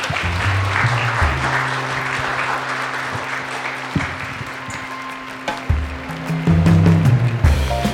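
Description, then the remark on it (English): An audience at Chamber on Tap, a live event hosted by the Greater Saskatoon Chamber of Commerce, applauds in a dense, steady wash of many hands clapping for several seconds, with a low sustained tone humming underneath and no talking. “I will give a round of applause, and then let's open it up to some questions from the audience.”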